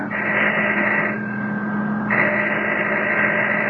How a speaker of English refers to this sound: All right, we'll start legit. I'm ringing the doorbell.